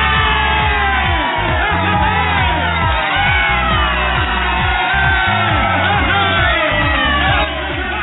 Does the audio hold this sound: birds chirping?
no